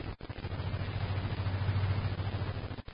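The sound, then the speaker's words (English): A car drives along a busy thoroughfare, its engine a steady low rumble beneath a continuous wash of road noise, with no voices. “Thus, the stream of traffic is completely unaware of the existence of the invisible car and its occupants.”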